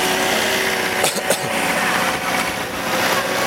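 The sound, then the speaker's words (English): A vacuum cleaner runs continuously, a steady whining motor drone with a broad hiss and a couple of brief sharp bursts early on, holding an even, fairly loud level throughout. “Here comes that vacuum cleaner again.”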